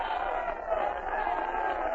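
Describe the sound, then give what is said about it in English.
A large crowd in the grandstands at a horse racetrack yells and cheers in a steady, dense roar just before the race starts, many voices blending into a continuous wash of noise with no pauses. “The stands are yelling themselves hoarse.”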